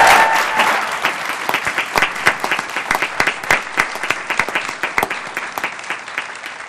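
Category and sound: crowd, round of applause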